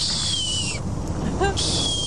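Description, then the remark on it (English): A voice imitates the squeaky, gate-like call of young long-eared owls: a thin, high, drawn-out squeak that slides downward, a short break with quick wavering chirps, then the high squeak again. “Now that the young, when they have young, they sound like a squeaking gate, which I can't do that because it's too squeaky, but it's like a...”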